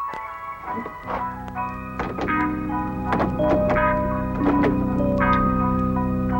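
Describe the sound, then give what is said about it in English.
A door lock engages with several sharp mechanical clunks and clicks, spaced irregularly over a steady, humming tonal drone that continues underneath throughout. “You've locked the door.”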